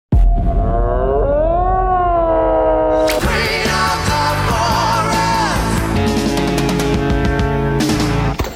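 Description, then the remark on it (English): A red deer stag roars during the rut, a loud, drawn-out call that rises and slides in pitch, then turns into a harsher, fuller, strained bellow that carries on for several seconds, with no one speaking. “that was a red deer from Europe and New Zealand roaring, which is during the rut”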